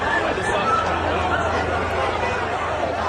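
Dense, continuous crowd chatter with overlapping voices forming a loud, agitated babble, no single speaker standing out, steady in level throughout, as chaos breaks out in the crowd at the outdoor event at Utah Valley University where conservative activist Charlie Kirk was shot.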